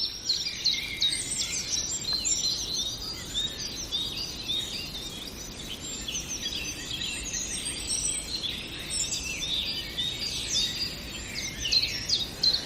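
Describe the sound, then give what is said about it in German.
Thin, high-pitched songbird aerial alarm calls, warning of danger from the air such as sparrowhawks and goshawks, ring out again and again over a steady outdoor hiss, several birds overlapping in a busy, continuous stream of short piercing notes, with no one talking. “Da sprechen wir eher über die Luftalarme.”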